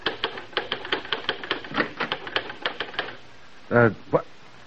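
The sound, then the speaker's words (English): Rapid, uneven clacking of typewriter keys, fairly loud, as a writer works at the typewriter in his study, for about three seconds, followed by a brief pause and then a short vocal sound. “a successful society writer, working at the typewriter in his study.”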